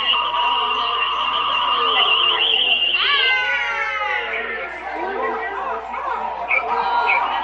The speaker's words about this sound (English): Sounds like we're in a jungle with some birds.